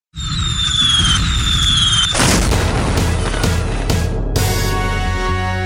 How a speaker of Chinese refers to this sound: 黑夜中放烟火，砰砰砰砰砰，漂亮的花朵，闪亮亮的有绿叶有红袖蓬。